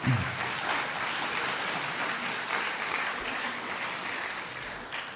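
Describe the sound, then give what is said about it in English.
Sustained audience applause for a Texas Republican speaker, a dense wash of many hands clapping at a steady, even level for several seconds with no one speaking over it. “You didn't know that you were going to be applauding a Texas Republican before tonight.”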